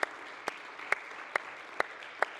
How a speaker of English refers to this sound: can we give God a hand clap for what he's doing right now?